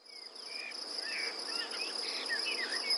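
A cricket trills in a steady, unbroken high-pitched drone, joined by scattered short chirping notes that rise and fall over the continuous buzz. No one speaks.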